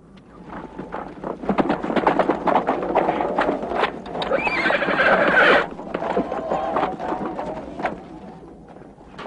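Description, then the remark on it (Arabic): A horse whinnies loudly while its hooves clip-clop in a quick, steady rhythm, the neigh rising sharply in the middle before the hoofbeats carry on, as its rider urges it to set off. “لنذهب يا جوادي.”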